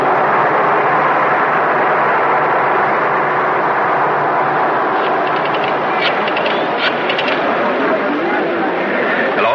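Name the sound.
airplane engine drone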